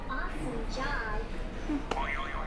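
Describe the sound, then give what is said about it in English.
A buzzer is pressed with a sharp click, followed by a short, wobbling boing-like tone that warbles up and down. Faint voices murmur in the moments before. “Can you hit a buzzer for us?”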